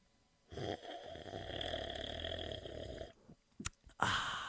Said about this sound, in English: Oh, I know what he's doing now. He's drinking coffee or something. That is correct.